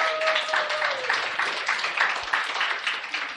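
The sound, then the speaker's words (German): Steady applause from an audience clapping for their preachers, dense overlapping hand claps filling the space for a few seconds at moderate loudness, with a faint tone or voice briefly audible at the start. “Wahnsinn, da kann man ruhig einmal einen Applaus geben, ja, finde ich schon.”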